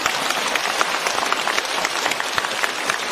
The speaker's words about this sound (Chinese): 你看大家都不鼓掌了，因为你台长也受牵连，你没人鼓掌。 让我们用掌声感谢卢台长为我们看图腾。